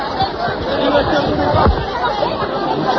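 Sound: crowd murmuring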